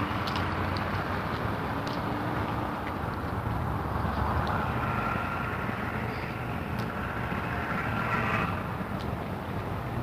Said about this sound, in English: It's a lot of noise this morning. There's a lot of traffic. It's Monday morning traffic on West 20th Street this morning